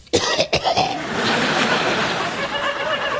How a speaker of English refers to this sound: Well, that would explain the cough, then, wouldn't it?